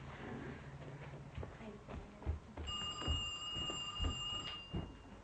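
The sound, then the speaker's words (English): A telephone rings with a steady electronic trill lasting a couple of seconds, fairly clear, after some soft knocks and handling noises. “She's going to answer the telephone.”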